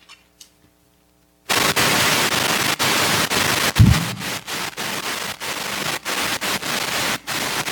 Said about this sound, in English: I'm just going to flip pages here if you'll bear with me so I can see my other notes here.